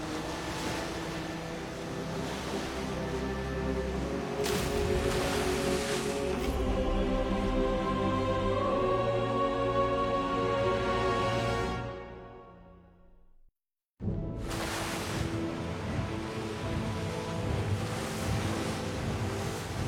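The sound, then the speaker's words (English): Ocean waves wash steadily around a boat moving at 23 knots, with a low engine-like drone underneath. The sound fades briefly to silence near the end, then the surf and rumble return at full strength. “Now I've been on four. I wonder how close we are to the Sea of Monsters.”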